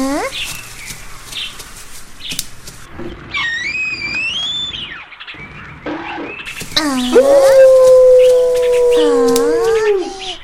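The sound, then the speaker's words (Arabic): A wolf howls in a long, sustained, loud tone that holds steady for a few seconds, preceded by shorter rising howls and a faint busy background. “إنه صوت ذئب، يا إلهي، مرة أخرى الذئب.”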